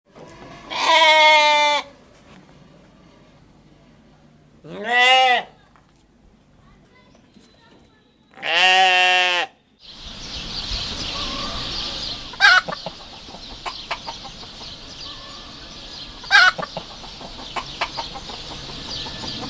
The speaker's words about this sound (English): And now, traffic. For that, we take you to 10 uninterrupted minutes of farm sounds.